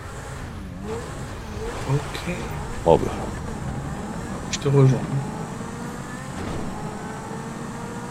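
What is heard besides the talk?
car engine revving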